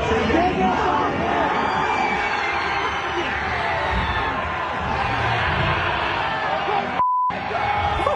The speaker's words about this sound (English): This is just one video of one of the crowd reactions to Chicken Jockey appearing on screen.